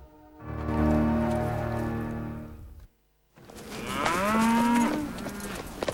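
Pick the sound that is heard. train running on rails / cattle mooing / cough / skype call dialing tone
cattle mooing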